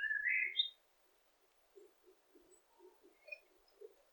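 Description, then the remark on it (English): Birds twitter in trees among oaks, silver birches and weeping willows: a bright flurry of chirps up front, then soft, scattered calls and a few thin, faint tweets, quiet, with no voices. “Small animals such as squirrels and rabbits scurry here and there, and you can hear the beautiful sound of the birds twittering in the trees.”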